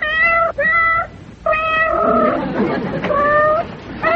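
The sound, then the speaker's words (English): A cat named Bootsy meows loudly, four or five drawn-out, plaintive cries in quick succession, with a brief murmur of noise between them. “I'm sure he's your cat”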